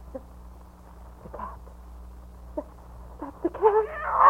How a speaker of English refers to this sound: The cat. Mr. Jabez, keep her away.